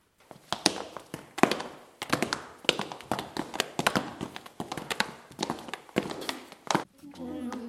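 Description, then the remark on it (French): Heavy footsteps thud repeatedly in a quick, uneven rhythm, fairly loud, a dozen or more sharp impacts over several seconds before a brief low rumble at the end. “Ils entendent des bruits de pas.”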